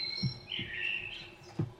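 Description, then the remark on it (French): A blackbird sings a short, fluting, warbling phrase, with a few soft low thumps and no talking. “C'est encore le merle, écoutez comme il chante bien.”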